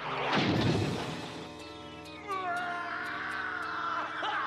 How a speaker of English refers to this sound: The copter grinds through the door and smashes Dracula.